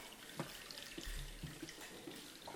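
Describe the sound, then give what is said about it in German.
Water is poured into a baptismal font during a baptism, a steady splashing trickle with a few brief knocks and drips, moderately loud, with no one talking. “Jonas, du kannst starten. Wir sehen das Wasser der Taufe.”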